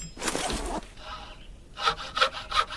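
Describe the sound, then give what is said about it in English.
In a video game, a knife carves a notch into one end of a very long wooden shaft: one long rasping stroke, a softer scrape, then three short, sharp carving strokes in a quick, even rhythm, with no voices. “It will first play a carving sound, then a knife hitting wood sound.”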